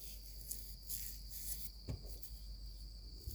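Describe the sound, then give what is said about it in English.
Crickets trill in a steady, unbroken high drone at 4 o'clock in the morning in cool weather, through a quiet nighttime backdrop, with a soft thump partway through and no voices. “It's 4 o'clock in the morning, these crickets, this peace, this cool weather, it's such a nice feeling.”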